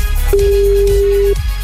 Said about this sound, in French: Le téléphone sonne, c'est peut-être le vôtre. Et maintenant, faut décrocher.